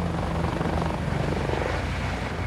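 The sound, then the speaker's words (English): A helicopter roars, its rotor thudding in a steady rapid pulse over a dense engine whine as it lifts off from a patch of scrubland and climbs, loud and continuous with no voices. “The chopper rises into the air.”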